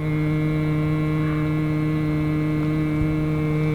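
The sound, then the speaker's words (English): A man hums one steady, tuneless note, holding it unbroken for several seconds with a buzzing, droning quality and no words spoken, humming to a swarm of gnats at a river's edge near the Boise foothills, among pastures and marsh grass in late afternoon sun. “The late afternoon sun gives the marsh grass a soft focus, and a blizzard of gnats rises up near the water's edge where a man is humming.”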